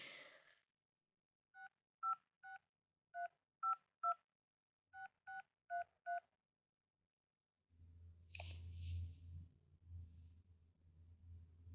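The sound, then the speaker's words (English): Ten keypad beeps of a phone in a school office dialing a cell phone number, tapped in quick clusters of three, three and four, clear, followed by a low muffled rumble with no voices. “Let's see if I have her cell phone number.”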